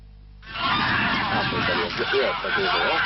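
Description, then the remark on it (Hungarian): A loud, dense chorus of many birds honking and squawking at once in a reedbed by the fish ponds at Hortobágy, Hungary, a continuous overlapping din that starts abruptly after a brief quiet moment and carries on steadily. “Tele van a nádas madarakkal.”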